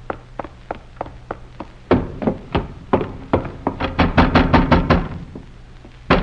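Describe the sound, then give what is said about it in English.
Insistent knocking on a door after midnight: a run of light, evenly spaced raps gives way to heavier blows, then a rapid, pounding flurry. No voices are heard. “Come down and open the door. I'll break it down.”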